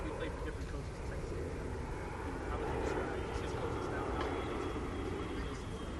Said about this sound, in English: Wait for the plane. Planes are killer.